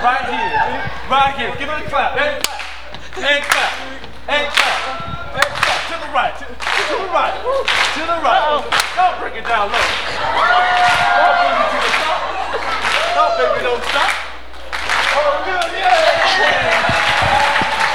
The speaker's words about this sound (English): Right here. Give him a clap.